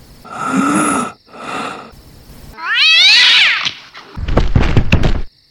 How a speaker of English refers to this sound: I had tripped over the cat.